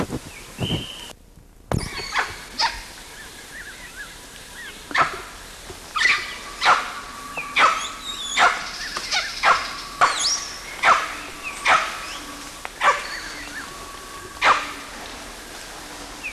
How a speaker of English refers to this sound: The latter one calling alone was CW, but the initial part of this recording had both LB and CW quisting and barking together.